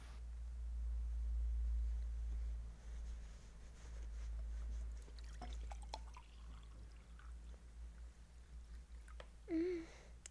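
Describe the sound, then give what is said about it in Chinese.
Red wine is poured onto a person's body in a soft, steady trickle, with scattered small drips and splashes, then a brief louder gurgle near the end. Quiet overall, with no talking. “红酒倒在身上有点凉啊，主人可要张嘴接好呀，不然就浪费了。”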